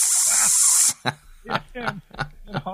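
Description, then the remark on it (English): A loud, steady hiss for about a second, likely voiced by a person, the hiss on the end of a whispered "social justice", followed by several short bursts of speech-like vocal sounds. “And things like, you know, could just hear the whisper. Social justice. Social justice. With a hiss on the end.”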